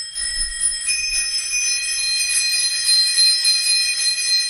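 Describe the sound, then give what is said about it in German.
Tandem bicycle bells ring continuously, several bright metallic tones overlapping in a sustained, shimmering chorus at steady loudness, with faint low rumbling underneath and no voices. “Diese Klingeln gehören zu Tandems.”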